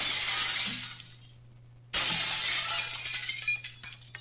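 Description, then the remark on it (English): Glass shatters loudly twice, each crash bursting out bright and sharp before tinkling fragments scatter and fade, the second break following the first after a brief pause. A person is deliberately breaking glass in a motel room in Irvine. “You hear all this glass I'm breaking?”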